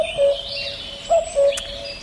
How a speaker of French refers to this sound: Évanoui le joli chant du coucou